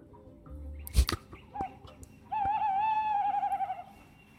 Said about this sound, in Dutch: Ik hoorde vannacht een bosuil.